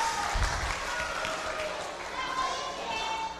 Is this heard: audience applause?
yes